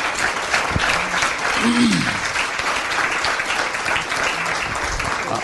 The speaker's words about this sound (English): So we should clap for that, because this is outstanding.